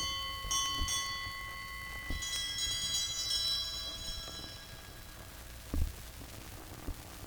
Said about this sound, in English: And these assorted bells.